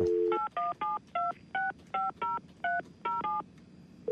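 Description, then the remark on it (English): A quick run of about ten telephone keypad tones, each a short dual-pitched beep, pressed in a brisk, slightly uneven rhythm while dialing a phone call, heard clearly with no one talking. “I want to see if I can get her on the phone, okay?”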